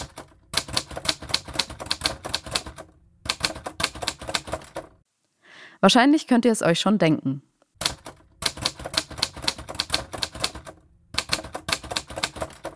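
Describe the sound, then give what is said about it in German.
Rapid, clattering typewriter keystrokes come in several loud bursts, broken by a short pause where a person speaks briefly before the mechanical typing resumes. “Genau, es ist die Schreibmaschine.”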